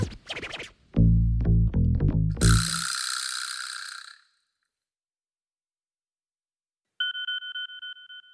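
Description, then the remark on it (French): A burst of mechanical clicking and rattling with a hissy swish fades into silence, then a mobile phone notification, an electronic two-tone beep, sounds steadily and fairly loud to the end. No one speaks. “Max consulte son téléphone. Il voit une notification d'un nouveau cumulophane”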